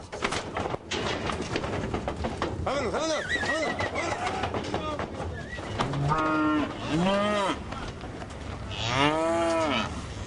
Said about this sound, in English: To witness a large herd of cows getting dipped is an amazing sight. The cows are herded off their trailers into a large pen, which then empties into a long chute.